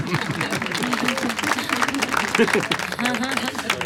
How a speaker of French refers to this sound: J'ai aussi salué, oui. Ces applaudissements, c'était toujours ça de prix.